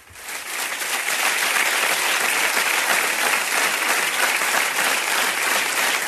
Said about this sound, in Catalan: Aixecant el puny, María Jesús Montero amb aquest adelante, llançant-lo cap a mig dels aplaudiments del Comitè Federal.